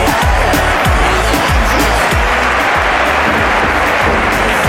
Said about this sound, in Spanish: Los aplausos a nuestro amigo Fernandito y el humor